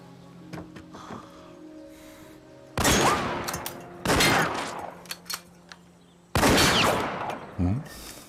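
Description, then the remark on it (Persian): Loud bursts of rapid gunfire from Miss Oakley's target shooting crackle in three separate volleys, each a dense rattle of shots lasting about a second, with short pauses between and no voices. “تیراندازی شما حرف نداره خانم اوکلی.”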